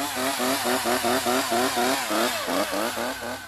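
A chainsaw runs loud, its engine snarling in a rapid, pulsing rhythm that revs and wavers throughout, with no voices present.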